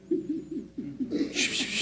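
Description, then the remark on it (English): A voice imitates cooing doves with a quick series of soft, low, throaty coos in a bouncing rhythm, ending in a breathy hiss. “I call it the cooing of the doves.”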